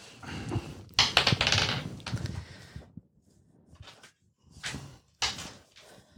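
Dice clatter and tumble across a tabletop, a loud rattling burst first, then a few shorter, quieter rolls after a brief pause.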